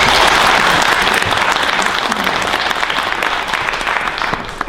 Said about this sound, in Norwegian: Gi en applaus.